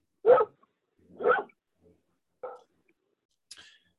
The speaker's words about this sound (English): We're walking down the hill from our house to go to Ferdinand Street. Uh-huh. And our neighbors have three dogs, so they're going nuts.